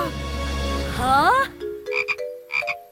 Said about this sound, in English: Hey, it's just a little frog. That's not scary at all. Oh, it's getting away! Here, little frog! Here, little frog!